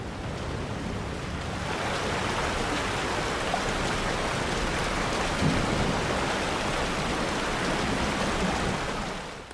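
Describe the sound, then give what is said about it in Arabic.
Heavy rain pours down over loud, rushing floodwater that has swept over and closed a road in the desert at sunset, a dense, steady roar that fills the whole stretch without pause. No voices are heard. “في الأعلى مقهى، ابقوا الليل هناك حتى يتوقف المطر.”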